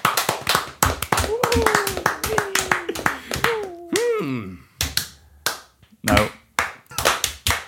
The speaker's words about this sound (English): Hand clap.